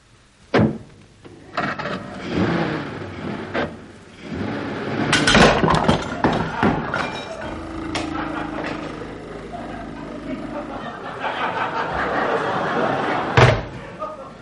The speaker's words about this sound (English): What was that? My bike. My bike, you ran over it.